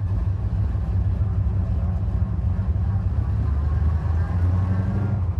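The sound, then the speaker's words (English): A loud, deep rumble of race car engines as the drivers start them, running steadily throughout, a thick continuous drone with little change in pitch and no clear revs. “Clutches in. Switches up. Drivers, start your engines.”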